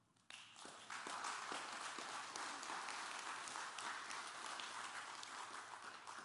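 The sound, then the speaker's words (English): A church audience bursts into applause as a clap offering to God after a brief quiet start, a dense, steady wash of many hands clapping that holds strong for several seconds, with faint cheering mixed in. “If you love God, give him the big clap offering.”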